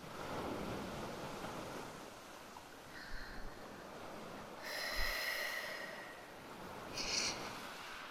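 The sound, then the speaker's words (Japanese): Ocean surf rushes steadily in a broad, continuous wash, with a few louder wave surges breaking and some wind buffeting the microphone; no one speaks. “これが海、これが波”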